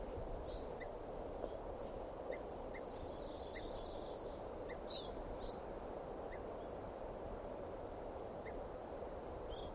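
Many birds call at once, a scatter of short, high chirps and whistles coming from different directions over a steady rushing background noise, with no one talking.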